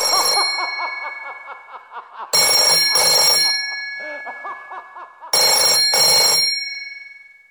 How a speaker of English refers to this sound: can you get the phone? It just keeps ringing.